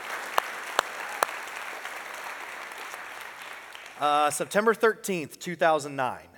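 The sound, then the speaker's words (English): A church audience applauds its elders in a steady, dense wash of clapping for about four seconds, then the clapping fades out as a single voice begins speaking. “So before we move on, can we just give a huge round of applause, appreciation to our elders for doing that?”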